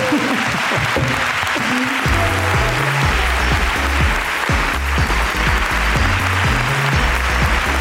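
A crowd applauds loudly and steadily for the whole stretch, a dense wash of clapping with a low, stepping bass line running underneath.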